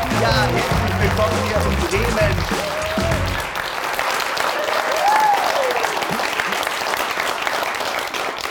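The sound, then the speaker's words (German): A live studio audience at the Witthus Hammer Studios in Bremen applauds loudly and steadily for several seconds, dense clapping with cheers and whoops rising over it and some low musical tones at the start. “Also, ich bin ja überwältigt, so viel Publikum hier zu haben.”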